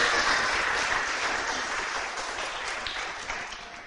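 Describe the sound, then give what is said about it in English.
A round of applause from a group: steady, dense clapping that holds at a moderate level for about four seconds, tapering slightly toward the end, with no voices over it. “Okay, I think we should give them all a round of applause and you can all have a jelly worm.”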